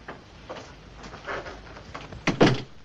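A front door is held open with a few soft rattles and shuffles as a man leaves, then swung shut with a firmer thud near the end. No one speaks.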